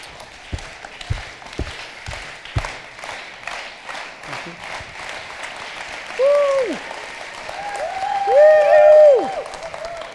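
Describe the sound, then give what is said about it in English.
A church audience gives a slow, fast clap: a few slow, evenly spaced claps quicken into rapid, continuous clapping, with loud rising-and-falling whistles cutting through toward the end. “the slow, fast clap, where you start off the slow clap and you end off with a really fast clap, and that, makes the person feel really good to get them excited.”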